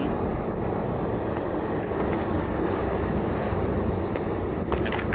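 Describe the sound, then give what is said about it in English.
A train passes with a steady, loud, continuous rumble and rushing clatter that holds evenly for about five seconds, with no one speaking over it. “Are you taking silence just to listen to the train pass?”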